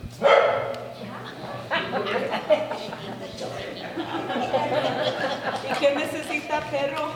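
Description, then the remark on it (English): A stray dog that wandered into a church during a residents' meeting in Vista Rossi, on a very hot September day in 2023, barks and yips several times, its loud first bark followed by scattered barks over a steady murmur of people talking and a few chuckles. “On a very hot September day in 2023, the residents of Vista Rossi packed into a church for a meeting, joined by a stray dog who also happened to wander in.”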